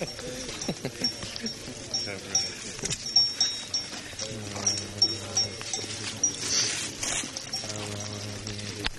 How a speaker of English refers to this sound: Very young? Yeah. 1 year. Bull. Cow. It's a cow.